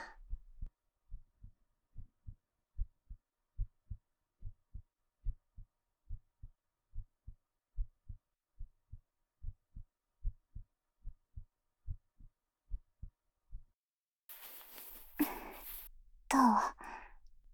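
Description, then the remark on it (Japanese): A muffled heartbeat thumps low and steady at a fairly quick pace, pounding from excitement, for over a dozen seconds, then stops and a soft breathy sigh follows. “そりゃドキドキするでしょ。こんなに近くに君がいるんだよ。ドキドキしないわけないじゃん、バカ。”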